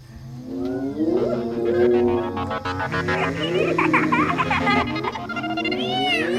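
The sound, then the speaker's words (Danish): A clan of 30 to 45 hyenas whoops, giggles and screams all at once at night, overlapping rising and falling calls from many animals, loud and continuous throughout. “Tilkaldt af skrigeriet dukker hjul af natten fra alle kanter. Klanen samles 30, 40, 45 hyæner.”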